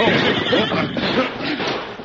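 The powerful stallion Silver neighs loudly with a wavering, shrill whinny over a dense rush of noise as it is reined in, lasting about two seconds.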